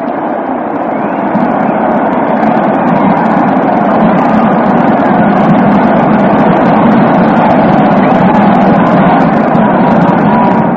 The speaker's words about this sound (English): A soft single, and it's all tied up at 2-2. On a run and hit play, Mickey Owen bounced through the left side of the infield. Listen to this crowd for a second, and we'll get back to the details.